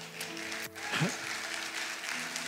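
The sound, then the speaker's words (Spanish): An audience claps steadily for the Lord, a dense wash of hand claps filling the moment, with faint voices and tonal sounds mixed underneath. “Sí, dele un aplauso al Señor.”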